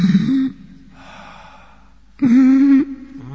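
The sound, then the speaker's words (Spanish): Heavy, labored breathing at night on the third floor of a palace building: two loud, voiced gasping exhales with a softer, airy inhale between them, slow and strained rather than quick panting, with no talking. “Quedó en el palacio y algunas noches, en la tercera planta del edificio, se oye un respirar pesado.”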